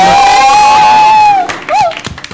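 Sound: children applauding and cheering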